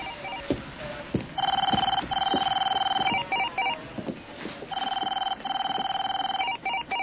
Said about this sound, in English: You can answer the phone?